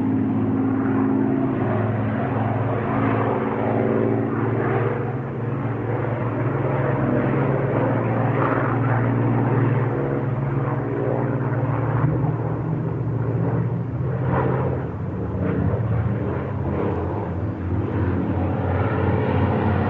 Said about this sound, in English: Well, you're going to get it anyway, because that was a Mosquito and two Spitfires in formation flying by.